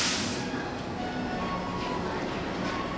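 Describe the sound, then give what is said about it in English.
A subway train slows to a stop at a station: a burst of brake hiss at the start, then a steady rumble with faint squealing tones from the wheels and motors. “We all get off the train together, and when the crowd thins, the boy and his dad are still with us on the platform.”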